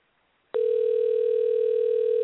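telephone line dialing tone

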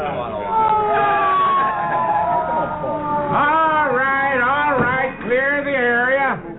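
ambulance siren

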